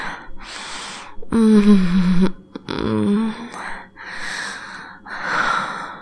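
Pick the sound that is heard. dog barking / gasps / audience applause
gasps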